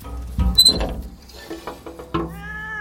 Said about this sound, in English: It's a cat wailing. What? It's a Boris. He's up the tree, look, right at the top. Would you credit it? How on earth did he get up there?